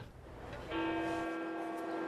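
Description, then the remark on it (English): A church bell strikes once, loud, its rich metallic tone ringing on and slowly fading, with fainter ringing audible just before the strike. No voices. “The ringing of church bells and the sight of the Vatican are emotive reminders of a painful past”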